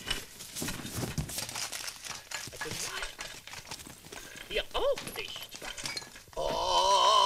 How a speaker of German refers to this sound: Hören Sie doch endlich auf, überall herumzukramen, Frau Elster.